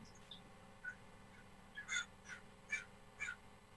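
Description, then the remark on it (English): Crows cawing, a run of four or five harsh calls spaced roughly half a second apart, faint over a low background hum with no one talking. “I got crows in the background today.”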